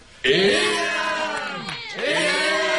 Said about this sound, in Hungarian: A többiek éjjent kiáltoznak nekik, és nagy örömmel fölemelvén kiviszik őket.